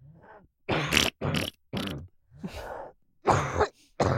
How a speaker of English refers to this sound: You know the cadence of her cough? It's always three.